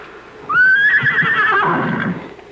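A loud horse whinny rises sharply and holds a wavering high pitch for about a second before breaking into a rougher, fluttering snort as it fades.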